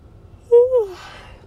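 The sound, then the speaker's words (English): A single voiced yawn, its moderately loud tone sliding gently downward in pitch before trailing off into a soft, breathy exhale. No talking accompanies it. “So, one more yawn.”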